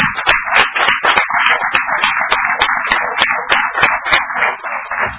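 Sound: applause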